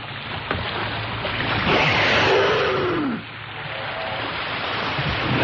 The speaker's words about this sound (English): that noise is a humpback whale surfacing to breathe, dodging whale-watching tourists off the coast at Witless Bay